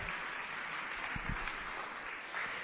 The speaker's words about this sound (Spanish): Y el día de hoy estamos en este espacio convocado por el Instituto Nacional Electoral. Por favor, un aplauso a todos quienes integran a este honorable instituto.